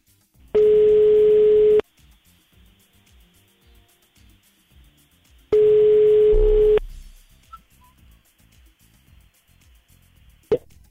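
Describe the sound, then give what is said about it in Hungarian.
Two rings of an outgoing phone call sound clearly through the line, each a steady buzzy tone about a second long, separated by a pause of several seconds, with no talking: the Hungarian radio station Rádió Egy calling a listener to pick the listener of the day. “2:10, csak annyi időnk van, hogy gyorsan rácsörögjünk valakire, aki, ha ügyesen veszi fel a telefont, akkor a nap hallgatója lesz”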